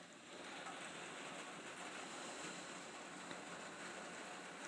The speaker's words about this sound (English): I'm staying in New York for 3 weeks, and we have thunder and rain. I shall give you a little listen. I'm at the back door. Here it comes.